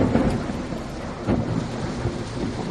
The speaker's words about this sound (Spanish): La madrugada ya ha estado marcada, especialmente en la provincia de Valencia, por tormentas.